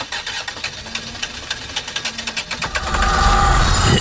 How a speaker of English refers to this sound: Time to warm up the Under the Influence time machine